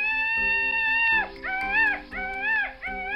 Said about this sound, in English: Let's look and listen for our next animal, the peafowl.